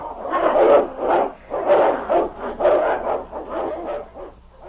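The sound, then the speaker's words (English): The dog Nipper barks and growls fiercely in a rapid, steady series of loud bursts, around eight or nine in under five seconds, springing out of a cave to meet an approaching wolf, with no talking. “Nipper sprang out with a fierce growl to meet the nearest wolf.”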